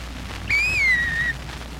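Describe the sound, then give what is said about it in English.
A traffic officer's whistle blown at jaywalkers crossing the street against the light: a single sharp blast, lasting nearly a second, rises briefly and then slides slightly lower in pitch before cutting off. It stands out clearly above a low, steady background rumble. “Got most of them in the point where they recognize the whistle.”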